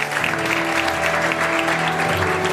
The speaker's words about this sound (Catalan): Un aplaudiment per ella, gràcies.